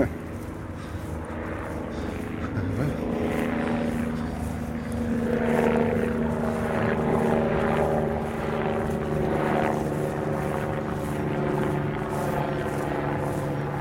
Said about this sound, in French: Ventilo, c'est quoi, Michel ? L'hélicoptère.